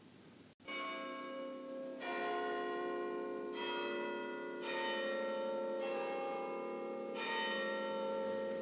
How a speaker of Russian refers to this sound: Издали ветер доносил печальный перезвон часов.